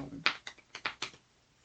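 Cards being shuffled in a short, quiet burst: a handful of crisp, papery slaps and riffles in quick succession, then a fade into near silence.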